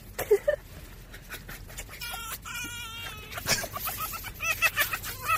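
A fox being tickled lets out rapid, high-pitched chattering cackles that sound like laughter, in repeated bursts with short pauses and a steady background hiss.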